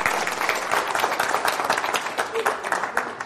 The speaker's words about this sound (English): All right, thank you very much. Give her a little clap. Good job.